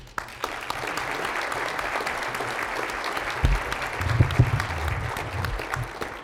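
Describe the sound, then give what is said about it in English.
Sustained applause from an audience in Detroit for Fannie Mae's Tim Mayopoulos after his talk, a steady dense patter of many hands clapping at an even loudness for several seconds, with a brief low rumble partway through. “Ladies and gentlemen, another round of applause for Mr. Mayopoulos, please.”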